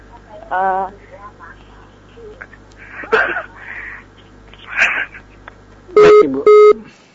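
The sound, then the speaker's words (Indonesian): Muffled, crackly speech of a caller from Padang on a phone-in line breaks off as the call is cut, followed by two short, loud, steady beeps of a disconnected-line tone in quick succession. “Tek terputus.”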